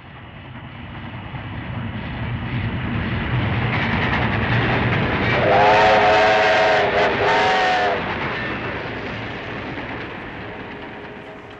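A train travelling through India rumbles along the rails with a steady low roar, swelling as it approaches and loud at its peak, with a brief horn-like whistle tone in the middle before fading slightly.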